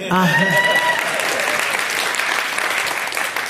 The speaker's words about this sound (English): yes, you can clap.